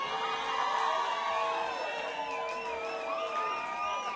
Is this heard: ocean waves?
no